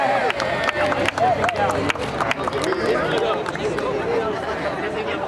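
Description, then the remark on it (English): A lively crowd of community members murmurs and cheers, with scattered claps ringing out amid overlapping voices, steady and fairly loud, at a ribbon-cutting ceremony unveiling a Historic Filipino Town sign on Temple Street in Los Angeles. “There were cheers and applause as Councilman Mitch O'Farrell made the honorary cut at the ribbon ceremony”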